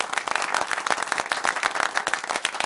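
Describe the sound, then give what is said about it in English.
Steady applause from an audience for the volunteers, a dense patter of many hands clapping at once, moderately loud and sustained without a break, with no talking over it. “Now, ladies and gentlemen, let's give a round of applause to our volunteers.”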